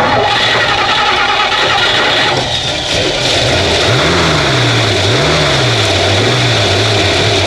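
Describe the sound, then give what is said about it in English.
A car engine starts and rumbles loudly, then revs up and eases off twice in quick surges, a steady roar filling the whole stretch with no voices. “What to make the motor go be so?”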